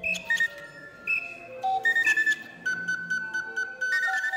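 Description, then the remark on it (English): Mechanical bird calls played from Mark Mothersbaugh's keyboard-controlled bird call aviary, a machine of about 60 bird calls playing music he wrote from a memory chip: a tune of shrill, steady whistling tones stepping between pitches, some overlapping, with sharp clicks at note changes and no voices. “And so we put together a machine with about 60 of those, the best of the bird calls.”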